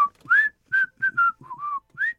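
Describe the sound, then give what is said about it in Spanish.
A short whistled melody of about seven clear, sustained notes with slight pitch glides, performed alone with brief gaps between the phrases; the whistle that opened the TV show Ventaneando. “Otro, Ventaneando, empezó con un silbido.”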